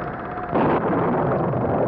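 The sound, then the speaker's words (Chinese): A loud, sudden crack of thunder from an approaching storm bursts over a steady hiss of wind and rain, then rolls on as a sustained, rumbling roar without fading. “暴风雨快来了， 希望风不要太大。”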